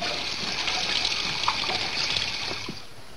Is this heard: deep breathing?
no